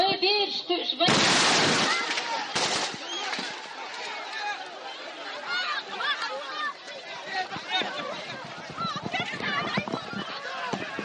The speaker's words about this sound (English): Sounds from yesterday's bombing at a stadium in Chechnya. In addition to the president, five others were killed in the explosion.